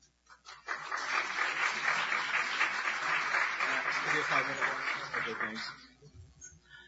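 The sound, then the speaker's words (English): A DEF CON conference audience breaks into steady, dense applause for a speaker being introduced, rising quickly, holding at full strength for about five seconds, then tapering off, with scattered voices mixed into the clapping. “DEF CON round of applause.”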